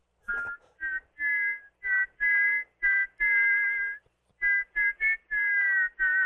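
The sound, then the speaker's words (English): A person whistles a string of short, breathy notes with small pitch wavers, fairly loud, imitating the hiss and whine of a steam radiator. No one speaks. “And I used to do that whistle, and the teacher would go over to adjust the steam heat and the windows,”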